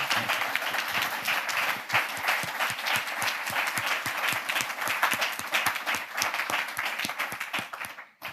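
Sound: audience applause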